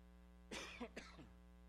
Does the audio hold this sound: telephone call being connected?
no